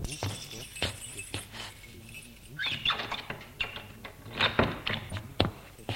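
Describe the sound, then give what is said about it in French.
Metal keys jingle and scrape in a lock, followed by a series of sharp clicks and knocks as the latch turns and a woman unlocks and works open the locked door of a study in an apartment, fairly quiet. “La mère ouvre la porte qui est fermée à clé.”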